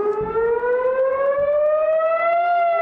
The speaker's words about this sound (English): Sirens wailed across southern Israel as hundreds of rockets and mortar rounds were launched from Gaza.